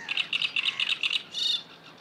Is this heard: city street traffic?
no